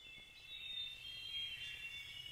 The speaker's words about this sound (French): Ça me fait penser à une jungle, des oiseaux qui chantent et de l'eau qui coule. Par exemple, dans une jungle avec une rivière, là, et l'eau coule.